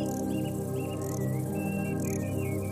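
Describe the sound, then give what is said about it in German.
A steady chorus of cicadas chirping in the evening in a national park as the air cools, a dense, continuous insect drone with brief higher chirps rising above it, moderately loud and unbroken, with no voices. “Die Zikaden beginnen ihr Konzert.”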